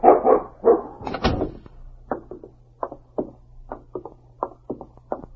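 A dog named King, being let out, barks several times in quick succession, followed by a series of shorter, softer yips and whimpering barks at a steady, uneven rhythm, with a low hum underneath.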